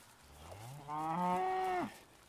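cow mooing

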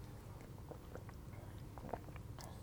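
sipping coffee

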